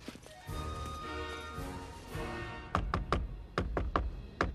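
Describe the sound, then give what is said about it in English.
A steady wash of tonal background sound gives way to sharp knocking on a warehouse door by a person dressed as Santa: two quick bursts of three or four solid raps each. “Santa knocks at the door, and another Father Christmas appears at a sliding window.”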